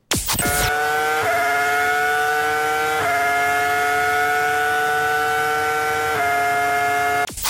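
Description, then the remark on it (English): In an impersonation game, someone imitates a car with their mouth: a loud, steady, buzzing drone rich in harmonics that holds for several seconds, its pitch shifting in small steps a few times, with no talking. “That does sound like an actual car.”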